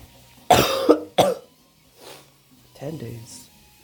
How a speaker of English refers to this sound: I'm not coughing blood anymore. Now I've just got a normal cough.